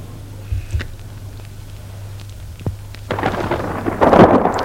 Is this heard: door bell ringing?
no